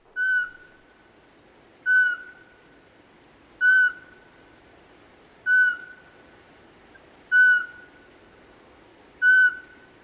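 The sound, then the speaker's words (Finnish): A Eurasian pygmy owl, a tiny owl weighing only 6-70 grams, gives six clear, evenly spaced whistled toots, about two seconds apart, each a short monotone note, heard alone with no one speaking. “Tuo äsken kuultu oli pikkuinen varpuspöllö, joka painaa vain 6-70 grammaa.”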